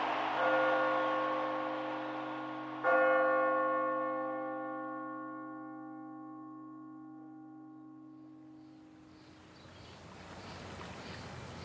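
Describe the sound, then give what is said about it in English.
The large, deep bell at City College in New York is struck twice a few seconds apart to mark tournament victories. Each toll rings out with a long, shimmering decay before fading into a soft, broad wash of background noise. “The bell at City College, which hadn't been rung in 50 years, rang 7 times, one for each of the tournament victories.”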